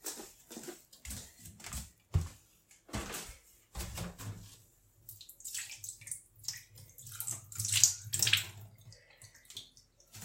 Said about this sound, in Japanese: ちょっと床は後で拭くんですけど、とりあえずちゃんとおしっこちょっとお風呂場に流しますね。